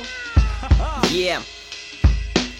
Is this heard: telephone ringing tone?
no